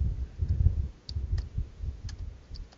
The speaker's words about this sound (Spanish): Y mientras guardamos silencio completo. Completo, así que escuchen el tecleo. El clickety click.